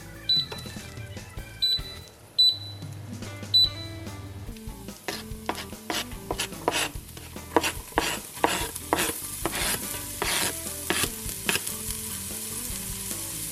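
A knife chops the remaining ingredients for cooking on a cutting board in a steady run of crisp strokes, about two per second, over faint background music, with no one talking.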